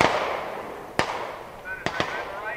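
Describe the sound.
Sharp rifle gunshots from soldiers shooting at a range in light rain crack out irregularly, four in all, the last two in quick succession, over a steady hiss of background noise with faint voices mixed in.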